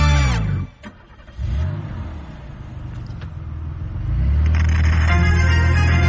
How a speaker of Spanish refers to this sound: I bueno, això que s'engegava un cotxe no volia dir que marxem, eh? Quasi, eh? Jo estava ja a punt de... Si tu ja treguis la clau, és el meu cotxe o no?